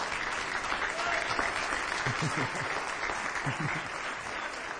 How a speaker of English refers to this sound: Well, go on, do it if you're going to do it. Clap, you're going to clap.